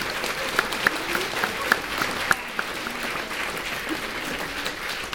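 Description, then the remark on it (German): An audience claps steadily for several seconds for the guitarist, a dense wash of many hands with a few sharper individual claps standing out, and no voices on top. “Einen kräftigen Applaus hier an der Gitarre, meine Damen und Herren”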